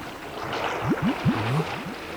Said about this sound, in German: Was ist denn das? Schwimmt da unter den Planken jemand im Wasser? Hallo? Sehr merkwürdig.